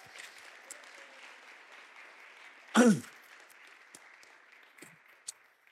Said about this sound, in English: it's her birthday today. So we have to give her a round of applause, don't we?